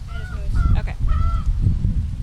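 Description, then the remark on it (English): Backyard chickens in Bloomington, Indiana squawk in three loud, drawn-out bursts, one right after another, over a low rumbling background noise, with no one talking. “These two young chicken farmers from Bloomington didn't participate this year, but they're still pretty invested in their backyard birds.”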